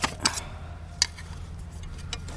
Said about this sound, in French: Oh bah là, je suis en train de mettre l'hélice sur le support moteur. Et pour que l'hélice ne s'en aille pas, je vais visser Hélice en carbone. C'est une hélice en carbone, tranchante, rigide.